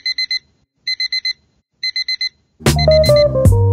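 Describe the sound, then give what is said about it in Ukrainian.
An alarm clock rings in three quick bursts of four bright electronic beeps, evenly spaced, before loud music with drums and a melody abruptly takes over. “Будильник лунає для тих, хто прокинувся в сні.”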